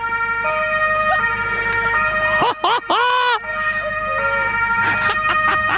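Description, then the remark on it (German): A loud emergency vehicle siren (Martinshorn) wails with rising and falling tones, with a brief burst of electronic yelp sweeps in the middle, over a running engine rumble, switched on from the centre console of an emergency vehicle in Bad Düben, Germany. “aber wir machen Martinshorn an”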